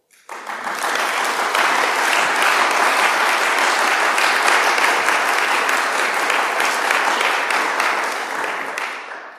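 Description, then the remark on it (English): A large crowd at All Saints church in Swanage bursts into sustained applause, dense and steady for several seconds before tapering off at the end, reverberant. “that I didn't ask them to applaud there.”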